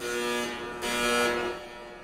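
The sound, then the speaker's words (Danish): A security gate alarm gives a steady electronic buzz throughout with a harsh, hissy surge in the middle, moderately loud, with no voices. It goes off as a man slips through the gate behind the passenger in front without scanning. “Og så går der en alarm.”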